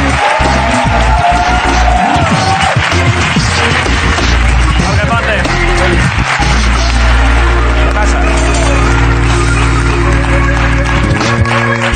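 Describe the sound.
Loud, dense audience noise with applause and scattered cheers and whoops as a guest is called out, a steady roar of clapping and voices that holds for the whole stretch, with low rumbling tones running underneath.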